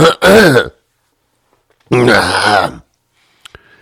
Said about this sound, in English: Let me clear my throat.